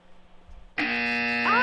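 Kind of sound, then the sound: signal or alarm, quiz show buzzer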